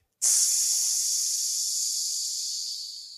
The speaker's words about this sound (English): But when you breathe in with your nose and use the belly and the diaphragm and slight pause and then exhale with the mouth. You can also use the tongue. I call it snake breathing.